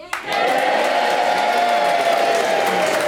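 A studio audience bursts into loud, sustained cheering to vote for the Eel Girl option after a brief moment of quiet, a dense wall of whoops and shouts holding steady at full volume for about three seconds.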